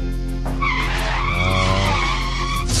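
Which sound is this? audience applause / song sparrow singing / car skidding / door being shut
car skidding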